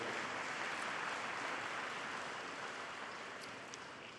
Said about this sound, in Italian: Applauso per tutti gli sposi novelli che sono con noi.